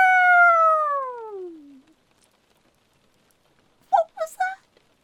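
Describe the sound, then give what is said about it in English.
A person lets out one long, loud howl while being given head scratches, the pitch sliding steadily downward before fading out; after a pause, a few short voiced sounds follow. “I did not just howl because you were giving me head scratches.”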